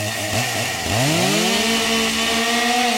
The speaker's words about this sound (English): Oh, I didn't know I had that. That's a chainsaw.